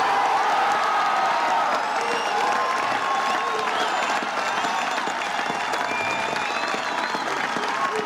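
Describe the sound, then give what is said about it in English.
A large outdoor crowd breaks into sustained applause and cheering during a speech by President Ronald Reagan in June 1987, after he says "Mr. Gorbachev, open this gate"; dense clapping mixed with shouts and whoops, steady and loud with no pause. “Of course, after the cheering, he then made the memorable remark to tear down this wall.”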